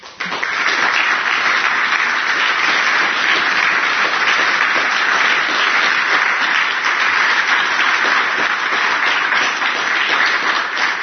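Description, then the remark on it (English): A crowd applauds steadily for about ten seconds for three United States Army and Army National Guard service members asked to stand, many hands clapping in a dense, even wash of sound that stays loud throughout with no voices on top. “I want all three of those guys to stand and get a round of applause.”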